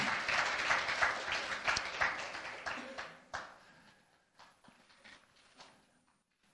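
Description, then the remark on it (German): Audience applause for a speaker: a dense patter of many hands clapping, loud at first, then thinning into scattered claps that fade out. “Ja, genau, lasst uns hier mal einen Applaus geben.”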